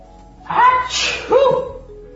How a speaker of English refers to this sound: You're sneezing a lot